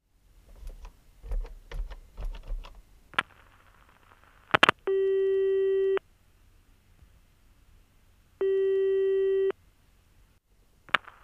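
A few quick clicks and taps as a number is dialed, then two long, steady telephone ringing tones, each about a second long with a gap of silence between them, as a man places a call to his mother on a Tuesday.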